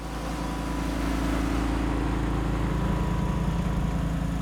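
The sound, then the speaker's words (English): A truck's engine rumbles low and steady as it moves slowly along a levee next to a pond at a catfish farm north of Belzona, Mississippi, with a continuous hissing spray of small protein-rich feed pellets over the hum and no voices. “A truck moves slowly along a levee next to a catfish pond, spraying out small pellets of special protein-rich feed that hungry catfish swarm to and gobble up.”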